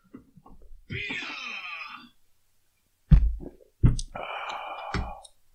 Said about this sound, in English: God damn it. I forget it's connected to me burping.